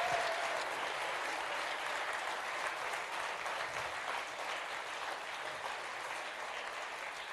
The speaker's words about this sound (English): Wow, let's keep cheering, guys. Let's keep cheering. Amazing. Brilliant.